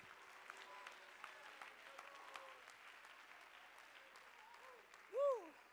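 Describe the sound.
An audience at Pentecostals of the Palm Beaches claps their hands for the Lord in a dense, steady wash of applause, with a few voices rising over it and a brief loud vocal swell near the end.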